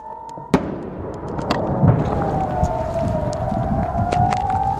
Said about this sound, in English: Residents of the northern Israeli town of Nisher say they are living under constant threat as sirens warn of incoming rockets and drones from both Lebanon and Iran.